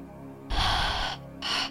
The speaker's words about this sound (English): so we can try it again. Breathe in. Deep.